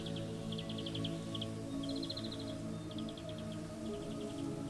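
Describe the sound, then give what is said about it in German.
Birds chirp in a forest, repeated bursts of quick, high twittering notes coming in short trills, set against a steady, low droning background with no talking. “Du stehst da und hörst das sanfte Rauschen der Blätter und das fröhliche Zwitschern der Vögel.”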